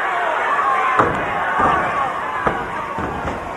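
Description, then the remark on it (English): A large crowd at a wrestling match cheers and roars steadily throughout, a dense wall of noise punctuated by four sharp thuds like bodies slamming onto a wrestling mat. “This crowd really coming alive.”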